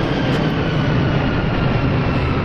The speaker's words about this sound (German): Selbst wenn jetzt irgendwie in der Innenstadt irgendjemand ist und ein Flugzeug irgendwo lang fliegt.